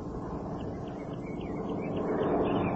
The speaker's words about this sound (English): There it is again, honey. A light plane. Well, let me try and hear it as well.